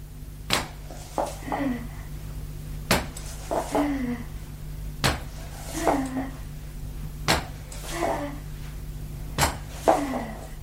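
Five sharp wooden knocks land at a steady, slow pace, each followed by a softer thump and scrape over a low steady hum: a woman pushing herself forward on two crutches, taking a few steps to a door.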